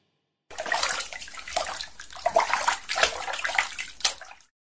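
Water is poured for washing hands, splashing steadily for about four seconds as if into a basin, fairly loud with uneven surges, no voices present.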